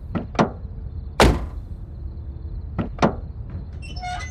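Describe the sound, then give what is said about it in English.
Scratchy bursts against a door, a female pet clawing at it from outside: two quick scrapes, a longer rasping one, then another pair, with quiet gaps between and no voices. “I see the little lady outside clawing at the door.”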